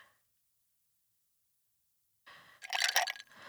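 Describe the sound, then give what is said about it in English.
After a stretch of silence, water splashes and trickles into a glass for about a second, a bright pouring sound with a rising fill, as a glass of water is poured for someone to drink. “I'm going to get you a glass of water.”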